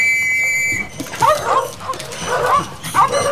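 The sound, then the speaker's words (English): Several terriers bark and yip excitedly in quick, overlapping bursts after a brief high whistle-like tone at the start, as they are set on rats. “These are your terriers.”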